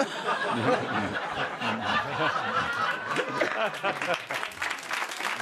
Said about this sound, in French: Vous applaudissez.